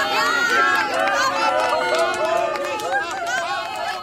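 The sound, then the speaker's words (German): A lively crowd of townspeople in Neustadt cheers loudly, many voices shouting and whooping at once, with scattered clapping mixed into the steady, dense roar throughout. “Die Neustädter Bürger jubeln und klatschen.”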